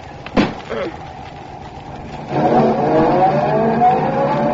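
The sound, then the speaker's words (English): A brief clunk, then a car engine starts up and revs steadily as the vehicle pulls away to be put in the garage, its rising, harmonic drone filling the rest of the moment. “I'll just put the car in the garage.”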